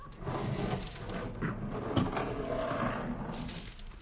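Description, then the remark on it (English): A heavy sliding door set in expertly camouflaged cement that looks like a big rock, in a jungle, rumbles open in one long, steady grinding scrape lasting about four seconds, with a couple of brief knocks partway through and no voices. “And then we saw it was expertly camouflaged cement with a sliding door.”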